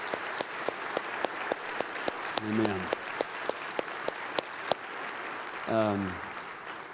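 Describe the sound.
An audience at a Central Assembly church service applauds steadily one morning for the outgoing pastor and his wife: a dense patter of many hands with a few sharper claps standing out, while a voice calls out briefly twice over the clapping.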